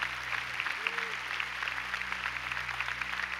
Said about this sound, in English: Come on, give Jesus a big round of applause.